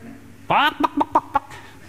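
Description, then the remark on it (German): A person imitates a chicken: one drawn-out rising squawk followed by four short, clipped clucks in quick succession, fairly loud, with no other talking. “Wie lebst du? Wie ein Huhn?”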